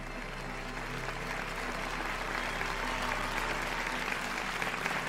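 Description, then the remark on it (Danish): A theatre audience applauds steadily at the final performance of the play 7-3 on 27 May 1999, a dense wash of many hands clapping at an even level for the whole stretch, with no voices rising above it. “maj 1999 blev teaterstykket 7-3 vist for sidste gang foran et veloplagt publikum.”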